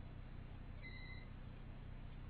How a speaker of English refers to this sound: It's all happening. Phones are going off, cars are coming.